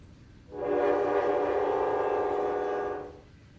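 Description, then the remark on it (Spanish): A train horn sounds a single long, steady blast lasting close to three seconds, loud, over a low background rumble, near a train graveyard, with no voices. “Aquí, tan cerca al cementerio de trenes,”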